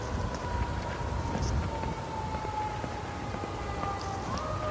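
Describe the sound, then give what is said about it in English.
A fire engine siren wails steadily at a single high pitch that shifts slightly as the engine goes very fast around the block at sunrise, heard faintly over a constant rush of wind and low rumble, with no one speaking. “Listening to that fire engine go around the block.”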